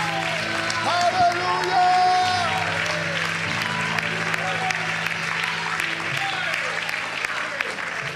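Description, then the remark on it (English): An audience claps and shouts to God together in a sustained burst of applause, loud and continuous, with scattered cheering voices and bright whoops rising over the steady clapping. “Oh, would you clap your hands one more time and shout unto God.”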